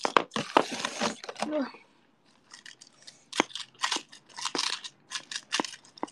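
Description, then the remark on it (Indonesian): Dry nori seaweed sheets crackle and crinkle as they are crushed, a dense burst of crackling followed by a pause, then repeated sharp crunchy crinkles in quick irregular bursts. “Ini kok kalian denger kresek-kresek itu sambil aku sambil ngancurin norinya. Rumput lautnya, diminya.”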